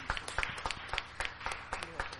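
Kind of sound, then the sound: crowd, audience applause and cheering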